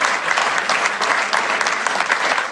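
Steady applause from a crowd, a dense crackle of many hands clapping at an even level for a couple of seconds, with no voices rising above it.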